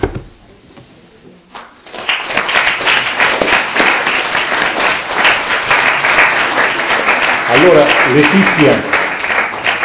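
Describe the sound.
After a brief spoken word, an audience at a Scuola di Pace gathering breaks into loud, sustained applause, a dense wash of many hands clapping that holds steady to the end, with a voice briefly audible over it.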